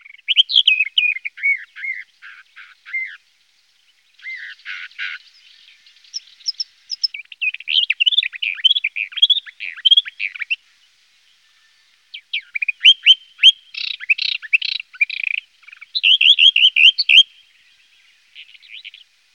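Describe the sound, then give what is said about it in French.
A warbler sings alone in clear bursts of rapid, varied chattering and whistled notes, each phrase lasting a few seconds and separated by brief silent pauses. “Non, ça, c'est la fauvette.”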